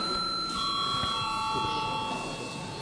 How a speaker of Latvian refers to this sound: Vai deputātiem ir iebildumi, deputāti iebilst, lūdzu zvanu.